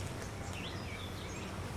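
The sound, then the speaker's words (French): Faint birdsong in a park, a few light chirps and warbling notes rising over a steady low background rumble, with no voices. “Des oiseaux qui chantent.”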